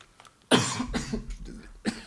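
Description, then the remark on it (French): A loud burst of coughing: a strong first cough followed by a few rougher, throaty coughs, then one more sharp cough at the end, with no talking. “Bon, c'est pas grave, je dirais qu'on peut tousser.”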